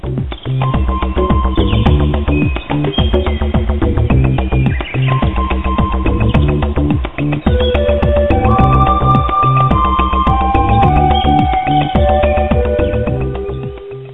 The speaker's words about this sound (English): Wait. Turn off your stupid phone. Please.